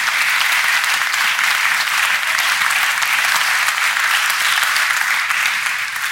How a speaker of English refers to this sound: And so you can clap.